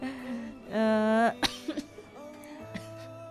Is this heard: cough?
yes